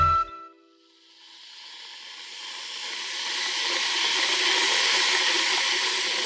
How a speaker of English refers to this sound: I'm warming up water for my morning matcha tea. Never boil, just warm. I'm using an electric kettle, but I can be quite certain that the power it is using was at least in part generated with gas, as the majority of Argentina's electricity is produced